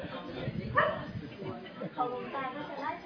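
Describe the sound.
A couple of short dog barks, fairly close, around a second apart, mixed in with people talking over a steady background murmur.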